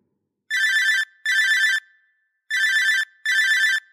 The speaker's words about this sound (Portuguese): 7:10, algo assim, tocou o meu telefone e no identificador de chamada veio o telefone privativo do quarto dele, o telefone fixo do quarto de Brasília.